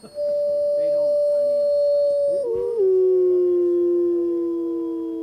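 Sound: gray wolves howling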